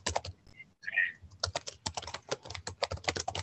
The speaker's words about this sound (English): Someone's typing and I can't really hear now. If you could mute, thanks.